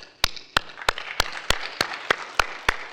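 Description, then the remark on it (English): A church audience claps together in worship in a steady, even beat, about three sharp claps per second, loud and crisp over a soft wash of crowd noise. No one speaks. “Hold your applause. Hold your applause. That's another way that God's people show worship.”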